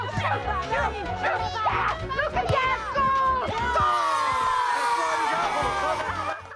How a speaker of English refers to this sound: races up and down the sidelines of a dusty football pitch and shouts directions